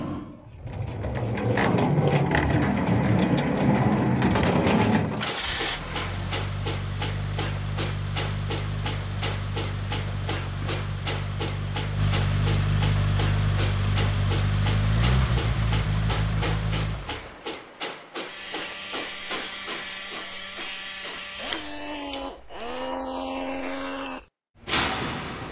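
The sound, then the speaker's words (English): The engine of a prototype jet train drones loudly and steadily with a deep, throbbing rumble and broad hiss for several seconds, then cuts out, giving way to high electronic whines and rising tones. “This is our prototype train. He's a jet train.”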